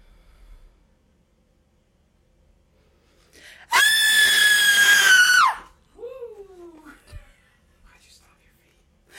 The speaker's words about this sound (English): Just walked face first into a spider type of scream. Yeah. Cover your ears.